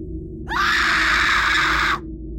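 A woman lets out a single loud, piercing scream lasting about a second and a half, rising sharply at the start and cutting off abruptly, with a low rumbling background underneath.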